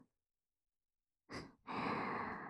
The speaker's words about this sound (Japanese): これを着てこうしてキューンって腕を抱きしめて思いっきり寄りかかって、お兄さんのお耳吐息でふうふうくすぐっちゃいますね。